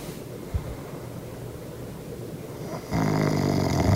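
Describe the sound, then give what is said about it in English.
Someone imitates snoring: a low, rattling rumble of breath that suddenly grows louder and harsher toward the end, with no talking. “That doesn't sound like I would think like it's a bunch of G's, H's, and P's if you're making the snoring noise.”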